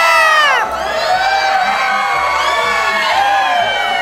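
A crowd of people in a city screaming in panic as they flee in fear, many high shrieking voices overlapping and sliding up and down, loud and continuous throughout with no pauses.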